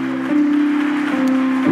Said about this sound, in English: And why don't we clap our hands to the Lord? Come on, you can clap a little bit louder.